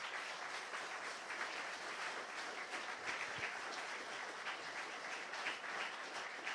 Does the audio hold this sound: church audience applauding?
yes